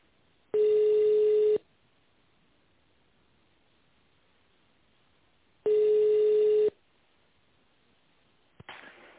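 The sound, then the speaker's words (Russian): Two steady telephone ringing tones on a call to the phone line of the Sibverk group of companies, each lasting about a second and separated by a few seconds of quiet line hiss, followed by a brief click and faint noise at the end. “В тоновом режиме наберите внутренний номер абонента или дождитесь ответа оператора.”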